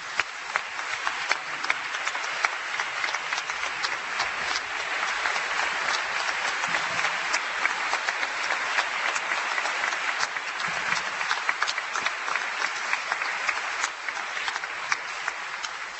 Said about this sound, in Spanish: Así que hoy nos vamos a dar el gusto, hoy vamos a inaugurar con todos los maestros la primera vez que cantamos acompañados por estos profesionales, por estos músicos que son extraordinarios y que merecen un fuerte aplauso, por favor.